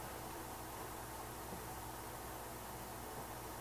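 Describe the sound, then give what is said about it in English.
A steady, low fan hum with a soft whooshing hiss from a running projector, continuing evenly and quietly throughout with no voices or other sounds. “…'s voice, projector.”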